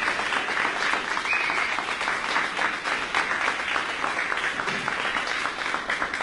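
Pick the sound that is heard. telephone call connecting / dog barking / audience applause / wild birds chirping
audience applause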